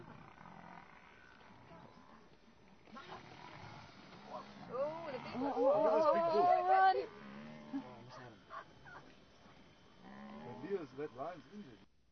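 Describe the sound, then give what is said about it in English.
A buffalo herd chases away a predator: loud, rising bellows and moaning animal calls swell in the middle, over a rough outdoor background with scattered grunts and voices. “Gee, they chased him away. But they hooked the one.”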